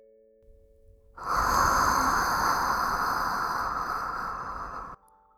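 Warm breath blown into the ear: one long, steady, breathy whoosh lasting nearly four seconds, loud and even throughout, then stopping abruptly. No one speaks.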